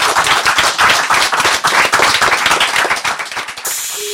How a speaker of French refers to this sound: Merci à l'Arche et on peut s'applaudir.